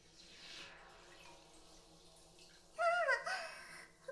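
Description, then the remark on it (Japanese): A soft watery wash in a bath, then a sudden loud burst of bubbling and gurgling near the end as someone blows bubbles underwater, wavering in pitch before fading. No one speaks. “沈めて泡を出してみて。”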